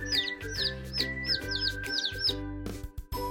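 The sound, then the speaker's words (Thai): A chicken crab makes rapid, high, chick-like chirps by striking and rubbing its front claws together, about seven evenly spaced peeps in two seconds, over a steady low droning background before they stop. “และสาเหตุที่มันมีชื่อว่าปูไก่นั่นก็เพราะว่าเมื่อพระจันทร์เต็มดวงช่วงผสมพันธุ์นะคะพวกมันจะออกมาชื่นชมแสงจันทร์แล้วก็จับคู่ค่ะพร้อมกับใช้ก้ามคู่หน้ากระทบกันเสียดสีกันทำให้เกิดเสียงดังเจี๊ยบเจี๊ยบเจี๊ยบคล้ายกับลูกไก่ร้องค่ะ”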